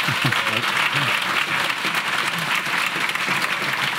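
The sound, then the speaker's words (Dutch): A crowd at the Grondvest festival in Nijmegen applauds and cheers steadily in a church. Dense clapping is sustained at an even loudness throughout, with scattered shouts and whoops rising above the clatter. “Mag ik jullie even horen in de kerk?”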